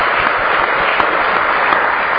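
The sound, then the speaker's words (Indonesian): Steady applause from a crowd for all the participants of a sharing session, a dense wash of overlapping claps at an even loudness for about two seconds, with no voices over it. “Saya ingin tepuk tangan untuk kalian semua.”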